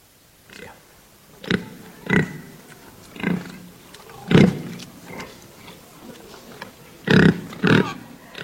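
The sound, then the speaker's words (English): A pig grunts and squeals in a series of short, harsh bursts, about seven or eight spaced irregularly, several fairly loud, with a couple of quick ones near the end. “No, it's a pig, of course.”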